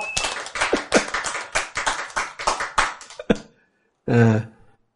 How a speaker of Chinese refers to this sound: 这样赞不赞？ 赞， 拍手。